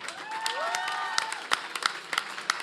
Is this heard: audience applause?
yes